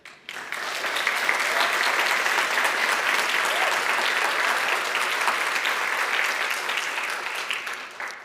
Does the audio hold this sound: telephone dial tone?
no